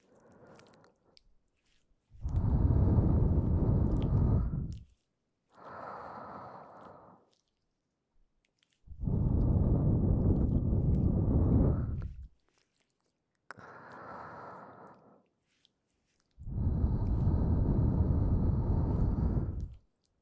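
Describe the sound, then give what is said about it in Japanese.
Five slow, breathy puffs of air blown into the ear, alternating long and short gusts with brief silences between, soft and noisy with a whooshing, muffled texture and no talking. “こうして耳に息を吹きかけられると頭がぼーっとして複雑な思考ができなくなりますよ。”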